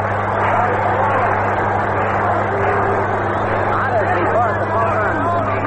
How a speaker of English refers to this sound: Manager Mel Ott of the New York Giants is coming up. He's going to pinch hit for Walter. Ott is getting a great hand from the crowd. Listen.